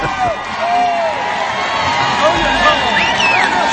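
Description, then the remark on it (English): A large crowd erupts in loud, sustained cheering, with whoops and scattered high shouts rising over a dense, steady roar of many voices, reacting as Joe Biggs reveals his Hillary for Prison t-shirt. “And check out the reaction of this crowd when Joe Biggs reveals his Hillary for Prison t-shirt.”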